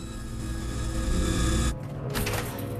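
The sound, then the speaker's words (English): A power drill whirs steadily with a dense, buzzing motor drone, then briefly drops off and surges back with a harsher, grinding tone as it bites into the material. “As he continues to drill”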